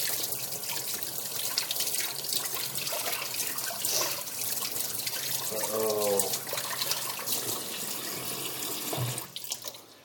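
Shower water runs in a steady hiss in the shower of a flat for the whole stretch, with a brief tonal squeak or murmur rising over the spray partway through.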